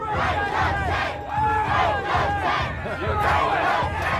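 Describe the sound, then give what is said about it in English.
A large crowd roars and chants together in a sustained, loud wave of voices, rising and falling rhythmically as many people shout and cheer at once. “This should have been echoing through the streets of Hobart that night.”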